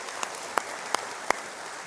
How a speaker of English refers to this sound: And would you give him praise for that? Would you clap because of what he's done?